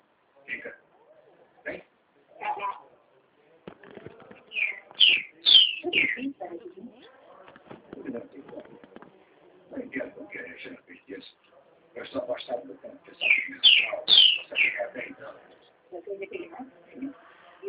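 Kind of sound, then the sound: bird, small bird chirping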